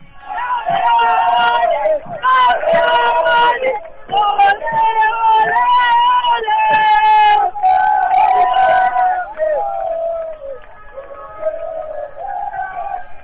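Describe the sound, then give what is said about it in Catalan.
A loud crowd of fans cheers and chants continuously as their team comes down the ramp, voices swelling in rhythmic shouts with scattered whistles and cries, easing slightly toward the end. “Escolteu l'afició.”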